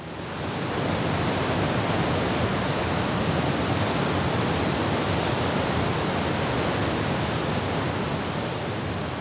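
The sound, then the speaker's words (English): Historical recording of Celilo Falls, a large waterfall on the Columbia River, roaring in a dense, unbroken wash of rushing water that swells up in the first second and then holds steady and loud throughout, with no voices. “People who remember its roar say you could hear it from miles away. Here's some historical footage of the sound.”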